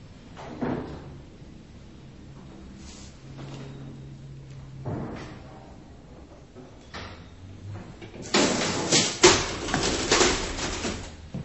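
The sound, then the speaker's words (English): An old DC elevator in the Empire Building on Hastings Street, Vancouver, built soon after the Great Vancouver Fire of 1886: scattered clunks, a steady low drone while the car runs, with no 60-cycle hum or fan noise, then a loud, rough rattling burst as the doors slide and bang. No one speaks. “It's a DC elevator, hence the absence of 60-cycle hum, and there is no fan noise.”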